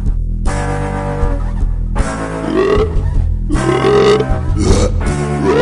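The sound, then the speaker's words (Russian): A loud, long, gravelly burp rumbles out in several drawn-out, croaking bursts, distorted, with no talking around it. “а потом смачно рыгнет.”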